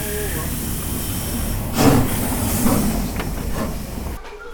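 A coal-fired locomotive, Lok 30, shunts slowly to couple back onto its train after its direction of travel is preset with the reverser: steady low rumble with a couple of louder hissing surges and a few sharp metallic clanks near the end.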